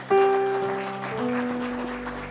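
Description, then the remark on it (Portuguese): A church audience claps steadily to praise the Lord alongside sustained keyboard chords that shift pitch partway through. The applause forms a dense, crackling wash under the music at a fairly even level. “Pode aplaudir o Senhor, igreja.”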